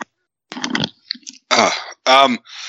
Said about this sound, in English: Hold on, I have to cough.